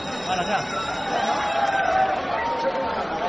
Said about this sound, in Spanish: Y como podemos escuchar, había un gran ambiente. Muchas familias con niños y se vivía la carrera con mucha emoción. Conforme se iban acercando los caballos a la línea de meta, la gente empezaba a animar y aplaudir con muchísimo ímpetu.